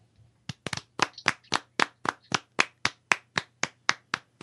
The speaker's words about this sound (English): Thank you for that, and apologize for clapping after the letter there, but I think it did fit really well, so thanks for putting those together.